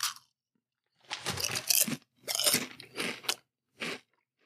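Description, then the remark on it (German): Loud, crisp crunching of barbecue potato chips being chewed, in four or five bursts separated by short pauses, with no voices. “Ich habe ja auch noch so eine Tüte Barbecue-Chips liegen.”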